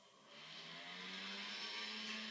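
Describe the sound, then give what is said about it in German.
A small motor scooter drives past, its engine whining steadily and growing slightly louder as it approaches, its buzzing hum and hissy high noise filling the short moment with no voices. “Jetzt rieche ich einen Roller auf einmal. Also ich höre einen, aber...”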